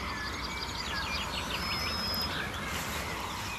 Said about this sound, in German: Pirole sind deutlich zu hören. Goldammern, neben Kontergesang und immer noch der Berufsverkehr.